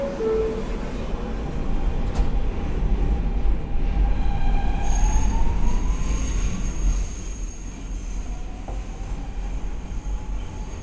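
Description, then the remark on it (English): A subway train rumbles steadily along the rails, its low roar filling the space while thin metallic squeals and whines rise and fade over the noise. “We're on the right car to just jump off, run up the stairs, and out the station.”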